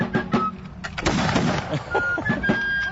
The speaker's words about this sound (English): We have a drum and bugle corps. Oh, from Washington on the Brazos. Right. Playing Pop Goes the Weasel with rifle fire going along at the appropriate place.